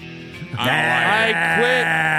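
A single loud, drawn-out sheep bleat with a wavering, nasal tone, clear, lasting nearly two seconds after a brief soft lead-in.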